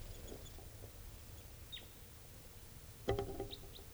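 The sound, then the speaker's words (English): A bird gives a few brief, high chittering calls that slide downward in pitch, scattered across several seconds over a steady low rumble, with a sharper burst of clucking notes near the end. “I got another bird here, sort of chittering and going down.”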